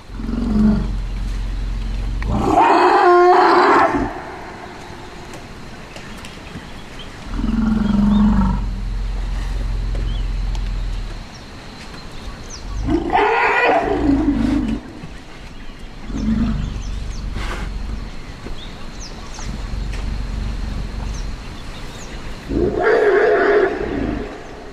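A male elephant at a Bai, stopped about 30 feet from a human intruder with its trunk raised, lets out three loud, harsh roaring calls spaced several seconds apart, with deep rumbling sounds in between and a low outdoor background hum throughout. No one speaks.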